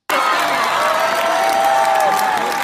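A crowd claps and cheers loudly and steadily for a few seconds, with a sustained whistle or whoop rising above the dense applause.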